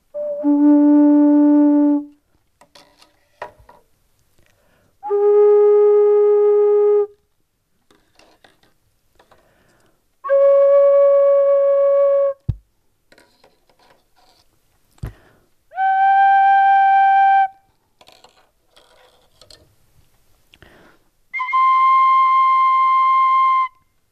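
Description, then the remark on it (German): Five loud, steady pipe tones sound one after another, each held about two seconds with short pauses and faint clicks between them, the pitch shifting from note to note with a rich, reedy timbre. “Also, weil andere Pfeifen sehen ziemlich viel anders aus.”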